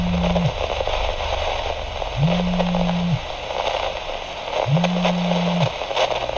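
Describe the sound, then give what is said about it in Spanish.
Steady static from a police vehicle's communication radio hisses and crackles throughout, broken by three low, bending squeaks that rise and fade at regular intervals, each lasting about a second. “El radio de comunicación solo emitía estática y chirridos.”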